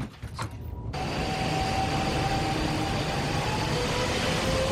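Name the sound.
train departing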